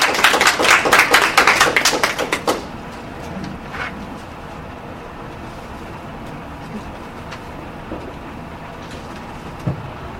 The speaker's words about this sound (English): Okay, now you may clap. Thank you.